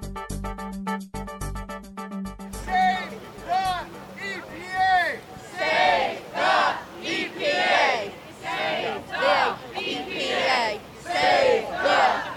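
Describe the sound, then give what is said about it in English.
After a brief opening of electronic tones, a large crowd of protesters in New York, from groups including Food and Water Watch, Riverkeeper, the Sierra Club, 350.org and NYPIRG, chants in loud, rhythmic bursts at a rally against the Trump administration's proposed EPA cuts. Voices rise and fall together in a steady repeated cadence. “They've organized a number of rallies recently to protest the Trump administration's proposed cuts”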